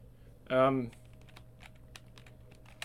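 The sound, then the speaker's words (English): A brief voiced sound at the start, then soft, irregular clicks of typing on a computer keyboard while playing a computer game, scattered keystrokes over a faint steady hum. “So you got to use all the keys.”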